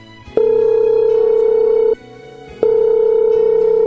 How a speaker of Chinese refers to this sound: 诶，电话响了。